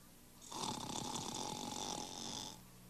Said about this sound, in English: I think I heard something. Oh, it's probably only Papa snoring.